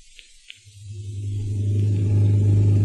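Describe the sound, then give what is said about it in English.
A new car's engine rumbles in from near silence, its low drone swelling steadily louder as it comes down the street to drop a passenger home, with a couple of faint ticks at the very start and no voices. “That's Zaza's new car. She's driving Gail home.”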